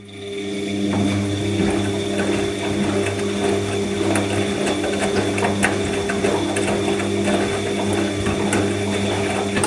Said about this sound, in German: Dieses Geräusch wurde dir präsentiert von Waschmaschine, so wasch, so Maschine. Waschmaschine.